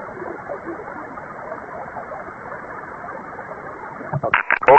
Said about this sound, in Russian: Я так понял, выключился. Но я, честно говоря, на уровне помех принимаю.